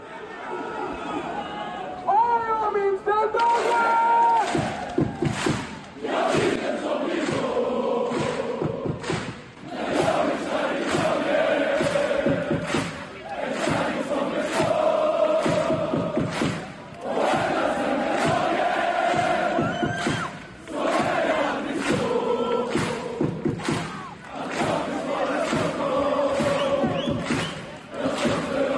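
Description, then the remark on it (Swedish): A large stadium crowd of AIK football supporters chants together loudly and continuously at a Friday derby, the massed voices rising and falling in a steady repeating rhythm, with a dense roar of many supporters filling the space. “Men frågan är om de når upp i de topparna som AIK-publiken faktiskt kom upp i under fredagens derby.”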